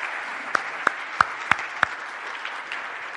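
A round of applause from a crowd: a steady wash of many hands clapping, with five sharp, louder claps standing out at an even pace early on before the sound carries on more softly.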